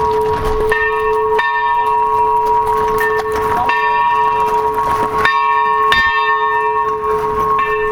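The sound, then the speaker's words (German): A bell is rung loudly and repeatedly by a member of the kitchen team at a festival rest area in Augsburg, signalling to visitors, each clang ringing out with a bright, sustained metallic tone that overlaps the next strike, with outdoor background noise. “vom Küchenteam läutet nochmal ordentlich, dass die Leute, die hier neugierig herkommen, nun wissen, jetzt treffen sie auch wirklich jemanden an.”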